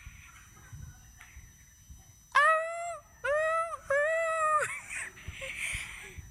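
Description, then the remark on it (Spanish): A puppy gives three drawn-out, high whimpering cries in quick succession, loud, each rising then falling slightly, with faint background noise before and after. “Y así ladría el perro.”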